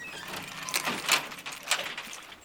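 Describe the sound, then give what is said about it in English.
A front door at home being unlocked and opened: keys jingle and a few sharp metallic clicks and rattles of the lock sound in short bursts, with no one speaking. “I'm just about to open the front door.”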